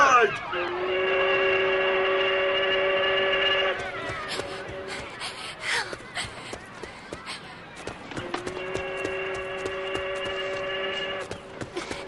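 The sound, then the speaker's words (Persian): A steamship whistle announces the steamship's arrival with two long, steady blasts, each about three seconds, with a hoarse, harmonic-rich low tone. Between them comes a few seconds of clattering, murmuring background noise. “کشتی بخار اومده، دیگه وقت این چیزا نیست، بریم همسرامون رو تحویل بگیریم.”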